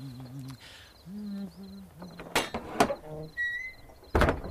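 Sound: door being opened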